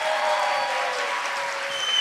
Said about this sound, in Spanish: Ese aplauso sonó mucho más fuerte,